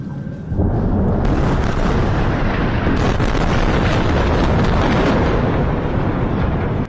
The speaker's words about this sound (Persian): صداهایی که در نوار غزه متوقف نمی شود، بمباران و انفجار، و پس از آن آژیر آمبولانس ها.